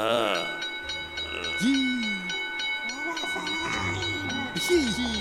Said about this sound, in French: Il y a une petite sonnette posée sur le bureau. Et... Je vais aller sonner!